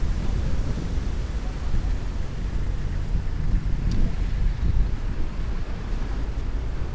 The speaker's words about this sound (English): Okay, I'm going through another wind tunnel here. This is the exit from the building. And the cold air is rushing in to the basement. Oh, it's windy today again.